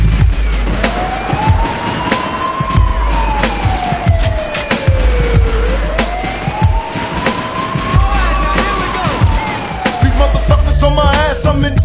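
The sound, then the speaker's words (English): A police car siren wails in slow rising and falling sweeps, about two full cycles, over a steady rumble of road traffic and scattered sharp clicks. “Is it a bust? I hear the sirens, run for cover.”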